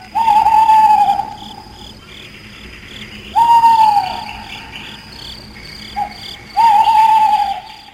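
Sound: owl hooting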